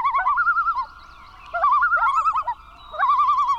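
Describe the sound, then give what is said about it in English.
A loon calls in three loud, quavering tremolo bursts, each a rapid wavering mid-pitched warble, with brief pauses between them and no voices. “By looking out for migrating loons, people can help ensure these submarine-like birds reach their northern breeding grounds safely.”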